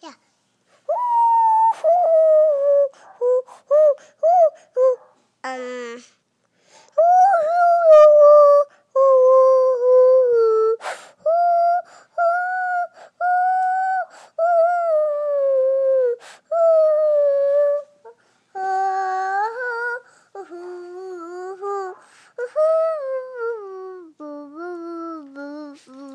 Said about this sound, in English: Can you whistle? Yeah, I can open that, but before I open this drink, can you whistle a song, maybe Twinkle Twinkle Little Star?